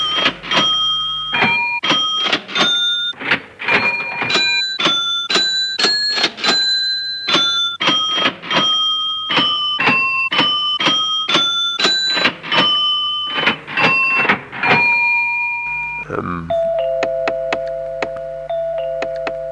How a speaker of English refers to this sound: That amazing piece that's made, I think, out of the sound of a cash register.